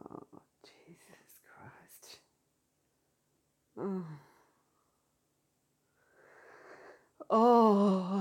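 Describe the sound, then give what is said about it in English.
A drawn-out yawn: breathy, airy inhales and a short groaning sigh, then a loud voiced exhale that swells and wavers at the end. Earlier there are whispery breaths. “I didn't mean to yawn, but holy shit.”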